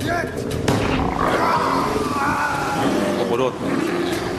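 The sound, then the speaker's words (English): A deep, menacing werewolf growl rumbles loudly and continuously, rising into snarling, roar-like surges with no pause for the full few seconds. “The captain's log is most unsettling, blaming in his native tongue a wolf-like creature for the deaths and desertions of his crew.”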